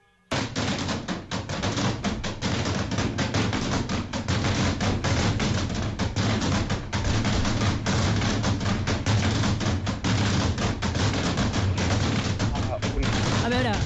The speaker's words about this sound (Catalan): Això és una matraca. Ah. Això és una matraca. Val. Forma part del paisatge sonor del campanar i del campaner.